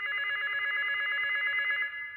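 A hotel room telephone at a Holiday Inn rings with a steady, buzzing electronic trill that holds for about two seconds before cutting off, loud with no voices.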